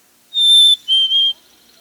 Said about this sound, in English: The black-capped chickadee is the other bird with a whistled song. It has the same sweet quality of a white-throated sparrow, but the chickadee song has only three notes.